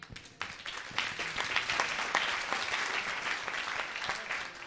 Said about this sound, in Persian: مرسی، تشویقش کنیم.